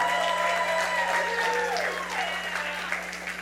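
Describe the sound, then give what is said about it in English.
Steady audience clapping, dense and continuous for a few seconds before easing slightly, with voices murmuring and calling out underneath. “And hopefully, if you clap real hard, we'll get”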